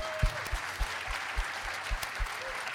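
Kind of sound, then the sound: crowd, round of applause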